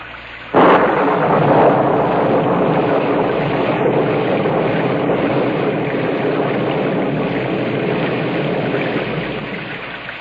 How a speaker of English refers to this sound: Gus, can we get level on the rain, please?